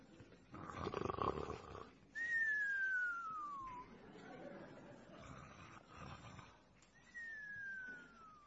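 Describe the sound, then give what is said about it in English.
People lying down with their eyes closed, pretending to go to sleep, imitate snoring: a raspy snort followed by a long, sliding whistle that falls in pitch, repeated twice over a low murmur of voices. “I need to hear some more people snoring.”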